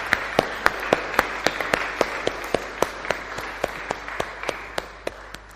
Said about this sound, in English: And I think they all deserve a huge round of applause as well.